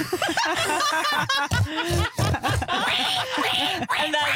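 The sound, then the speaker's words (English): A voice mimics loud wild hog snorts, a rapid run of rough, nasal, breathy bursts lasting several seconds, with some laughing mixed in among them. “And then I look at my phone and I hear just the loudest snorts I've ever heard. Could you impersonate those for us”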